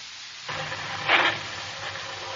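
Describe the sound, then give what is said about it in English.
A car engine starts up abruptly and settles into a steady, hissy rumble, with a brief louder surge partway through. No voices. “Get in the car and see if she'll start.”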